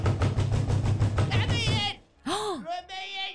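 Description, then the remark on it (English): A woman bangs on a door in a rapid, steady series of loud bangs lasting almost two seconds, followed by a voice calling out in a rising, strained tone. “She's really banging on the door.”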